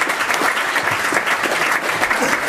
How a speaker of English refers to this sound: Give that genius that applause.